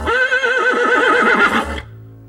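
A horse whinnies loudly, a single long neigh with a wavering, trembling pitch that lasts nearly two seconds before cutting off, leaving a faint low rumble.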